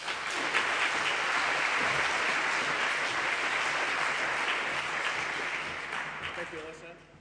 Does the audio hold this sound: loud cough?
no